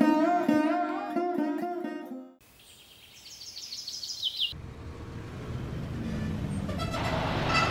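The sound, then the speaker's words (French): Loud, repeated car horns blare in quick bursts, then high birdlike chirps sound briefly before a dense, steady, continuous roar of busy street traffic takes over, in New Delhi, India, just outside a metro station on a very hot day. “Ça y est, je suis arrivé à New Delhi, je sors du métro, il fait super chaud et les gens sont...”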